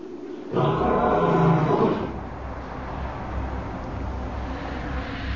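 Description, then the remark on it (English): A lion's roar bursts out loud, a single deep, rough blast lasting over a second, then gives way to a low, rumbling tail of background noise. No one speaks. “And now, I think I shall roar.”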